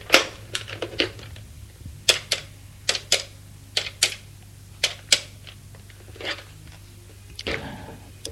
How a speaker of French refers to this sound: Il a envie, c'est de le rappeler, Alors, il fait le numéro.